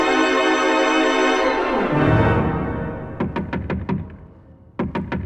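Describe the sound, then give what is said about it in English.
A swelling orchestral chord fades, then a series of sharp knocks rap on a door, a quick burst of about six followed after a pause by a few more, loud. “Who is it? Who's there? Open the door”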